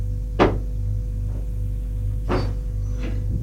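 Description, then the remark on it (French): A door opens with a sharp clack, followed by two softer knocks or creaks a couple of seconds later, all over a steady low hum. “La porte s'ouvre.”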